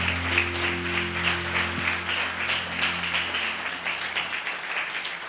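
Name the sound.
audience applauding loudly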